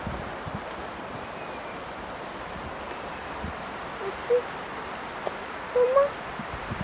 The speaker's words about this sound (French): Je sais pas si c'est des bébés chouettes ou des bébés éperviers.